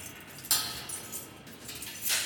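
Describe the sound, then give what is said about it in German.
Keys jingle and scrape in a door lock, with a sharp metallic clink at the start and another bright rattle near the end, fairly quiet and with no talking. “So, jetzt geht's los. Wir schließen auf.”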